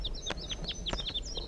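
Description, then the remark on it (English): A rapid series of sharp, high-pitched crossbill calls, short metallic chips repeating quickly and overlapping, fairly quiet over a low background hiss, recorded on a hill while walking down it. “So recording, I'm on my way down the hill and I've met up with crossbills, perhaps the same birds as before.”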